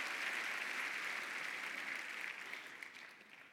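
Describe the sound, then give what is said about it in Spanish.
An audience applauds the Lord together in a steady, dense wash of clapping that holds strong for a few seconds, then gradually thins and fades toward the end. “Un aplauso al Señor.”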